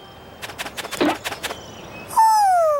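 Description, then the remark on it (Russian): A young owl, an owlet, calls: a quick run of soft fluttering chirps, then one loud, drawn-out hoot that slides gently downward and holds for nearly a second. “Ты сова, вернее, совенок.”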